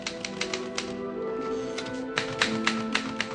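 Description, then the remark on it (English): Rapid typewriter keystrokes clatter in uneven bursts, sharp bright clicks with brief pauses between runs, over a steady low background hum and soft tonal music, from a film scene in which Schindler and his bookkeeper Stern type up a list of Jewish workers. “In this scene from the film, Schindler and his bookkeeper Stern, played by Liam Neeson and Ben Kingsley, are typing up the list of Jewish workers who will fall under Schindler's protection.”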